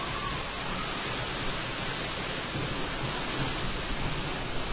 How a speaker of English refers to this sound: I have never seen water like this, just the force of it as it comes down and hits the standing water. It's really, words fail me